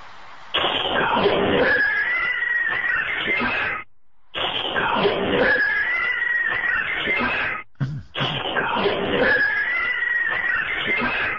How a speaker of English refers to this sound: This one sounds like cats getting into a fight. So go ahead and listen to this one.